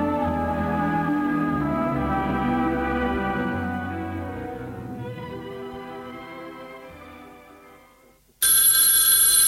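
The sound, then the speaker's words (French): A telephone bell bursts into loud, bright ringing near the end, cutting in abruptly after a sustained tonal passage fades away beneath it. No one speaks. “Il décroche le téléphone.”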